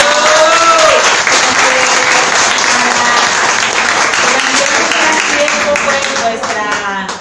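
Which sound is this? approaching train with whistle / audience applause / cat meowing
audience applause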